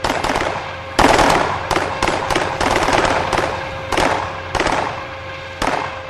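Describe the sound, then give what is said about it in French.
Loud, sharp bursts of gunfire from soldiers shooting crack out in an irregular volley of shots, some clustered and some spaced apart, over a steady low hum. No one speaks. “Mais tirez, bande d'imbéciles!”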